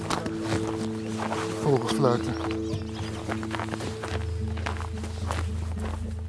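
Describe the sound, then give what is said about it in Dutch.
Steady footsteps crunch through snow at a walking pace across a snowy landscape as the sun comes through, over a continuous low droning tone that holds throughout. “Over het sneeuw landschap lopen we nu ergens heen.”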